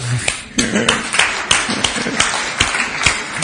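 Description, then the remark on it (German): An audience applauds for those among them not born in Germany, many hands clapping in a dense, irregular patter with sharp individual claps standing out, steady and fairly loud for a few seconds. “Hey, so, das gibt einen Beifall.”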